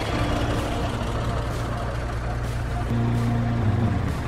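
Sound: bus engine running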